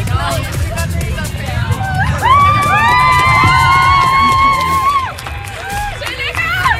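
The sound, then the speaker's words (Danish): A lively crowd cheers and claps throughout, giving a big hand to a young woman who has won a trip to London, with a long, high-pitched whooping scream rising above the din in the middle before the noisy applause carries on. “Kan vi lige alle sammen lige give hende en kæmpe stor hånd?”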